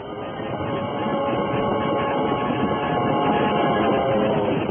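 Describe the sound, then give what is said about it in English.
A steam train rumbles steadily along the tracks, a loud, continuous clatter and roar that stays constant throughout, with no voices. “Then came the railroad, grasping out finger-like from the Atlantic coast.”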